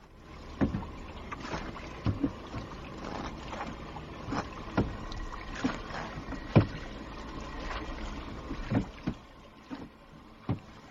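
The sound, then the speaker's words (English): A sailing boat moving across Lake Päijänne, with water sloshing and sharp knocks or splashes every second or so over a steady low rumble of wind. No one speaks. “Let's go sailing.”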